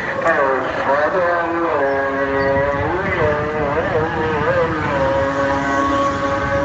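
Tuk-tuks drive past on a busy, dirty, bumpy street near a mosque, oncoming and from behind, their small engines droning loudly and steadily, the buzzing pitch rising and falling as they pass amid constant traffic noise.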